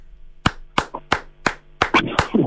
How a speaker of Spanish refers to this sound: Bravo. Gracias. Estoy aplaudiendo porque qué bonitas palabras y qué bonito tiene que haber sido recibir ese premio Sello de Excelencia en Diseño del Estado de Chile,